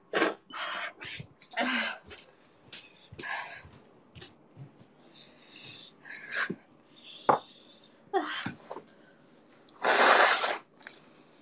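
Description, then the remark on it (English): Someone blows their nose: a series of short, breathy snorts and sniffs, ending in one long, loud blast of air through the nose. “I don't usually blow my nose in a stream or space, but I have a choice.”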